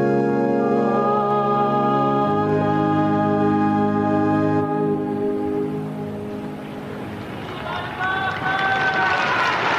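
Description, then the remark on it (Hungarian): Sustained, tonal chanting of a Latin blessing holds for a few seconds, then gives way to a dense, loud storm of applause from a large crowd, thanking the Holy Father for his catechesis, that swells and continues to the end. “Kedves hallgatók, a hatalmas tapsvihar az jelzi a Szentatyának a köszönet, Szentatya iránti hálát és köszönetet a mai katekéziséért”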